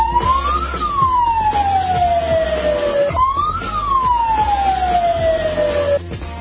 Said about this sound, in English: A familiar sound in parts of the Middle East, specifically that siren in Libya, heard all over the place.